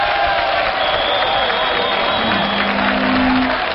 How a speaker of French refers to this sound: Je voudrais des applaudissements pour Monsieur Attenti, s'il vous plaît.